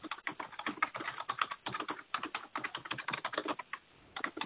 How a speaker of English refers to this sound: Sorry, that's me typing, and I know you can all hear that.